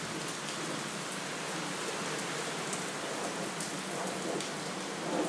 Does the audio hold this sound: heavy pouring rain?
yes